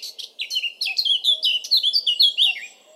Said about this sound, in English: So I've come down to the river viewpoint, hopefully to see a kingfisher here. There's a black cap around me at the moment.